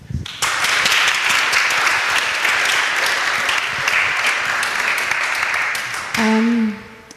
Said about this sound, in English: Yeah, let's do first a clap, no?